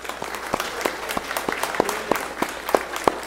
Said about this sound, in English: So if you agree to that and approve that, would you just applaud?